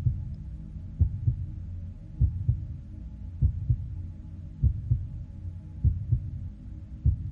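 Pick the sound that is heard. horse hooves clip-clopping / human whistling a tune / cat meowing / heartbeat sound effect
heartbeat sound effect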